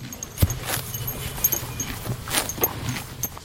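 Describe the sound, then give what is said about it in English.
An elderly, 21-year-old rescued horse grazes at an equine rescue in Kentucky, with crisp tearing and crunching bites of grass repeating irregularly, plus soft shuffling movement, no talking. “Right now, she's chowing down on grass.”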